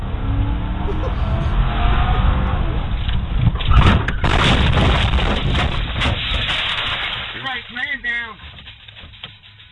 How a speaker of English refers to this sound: What is that noise? You know it's a wheel. Oh, that's a hubcap just spinning.